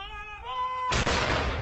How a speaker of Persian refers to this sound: 96 شلیک توپ به مناسبت مرگ الیزابت دوم در 96 سالگی در نقاط مختلف انگلیس و شماری از کشورهای همسود.